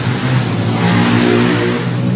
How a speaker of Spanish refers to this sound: Están pasando algunos ciudadanos con sus motos. Desde el autódromo.